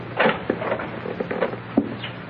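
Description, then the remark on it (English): A hotel suite door being opened by an arriving man: a few sharp wooden clicks and knocks from the latch and frame, spaced irregularly over a couple of seconds, with no voices. “He's opening the door.”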